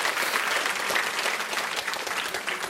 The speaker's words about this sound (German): Burgdorf, das ist ein Applaus wert, danke vielmals.